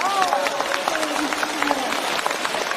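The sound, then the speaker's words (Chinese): A crowd breaks into steady, dense applause that carries evenly through the whole clip, with a voice briefly audible over the clapping at the start. “开饭店杀活鱼，鼓掌。”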